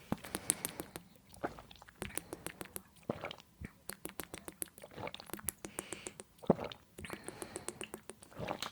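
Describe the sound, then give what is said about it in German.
Quiet, wet swallowing and mouth clicks as five small sips of water are taken: a dense run of sharp, crackly little clicks and gulps in several bursts, with no talking. “Also auf jeden Fall jetzt wir machen jetzt alle 5 Wasserschlucke.”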